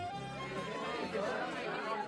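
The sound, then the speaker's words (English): Busy crowd chatter in the Noisy Nancy, a local pub in a picturesque town, a steady overlapping murmur of many voices with no words standing out, filling the whole short stretch at an even, moderate level. “So, come with us to the local hostelry, the Noisy Nancy.”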